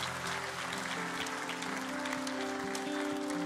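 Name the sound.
audience clapping and cheering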